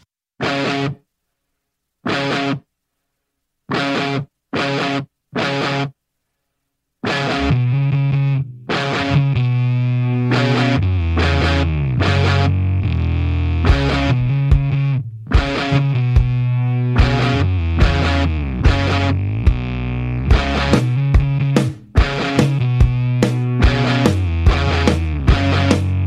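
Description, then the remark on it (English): A rock song with heavily distorted guitar opens with several sharp, stop-start chord stabs separated by silence, then the full band kicks in with driving drums and bass and continues loudly without vocals. “Anyway, I will leave you with a tune so much to choose from.”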